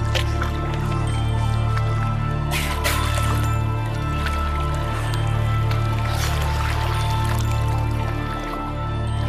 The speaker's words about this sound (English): There he is. Look, he's close now. See, he's coming straight between us. Oh, it's two youngies. Oh, there's Mum. Right between us. You can hear him breathing.